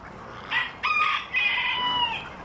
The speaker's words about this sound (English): And actually that cock there, that he came from Kerry.